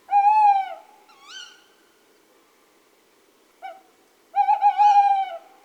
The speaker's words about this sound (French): Il y avait la hulotte.